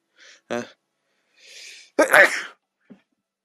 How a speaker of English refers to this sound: I gotta sneeze.